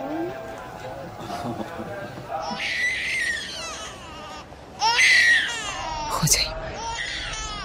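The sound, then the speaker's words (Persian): A child cries and wails in several loud bursts, the voice rising and wavering in pitch, with a sharp high-pitched cry near the end. “بچه ها سر هر کاری گریه و زاری را میندازن.”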